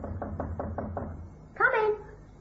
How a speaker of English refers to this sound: It was at 7 o'clock that night that I knocked on her apartment door.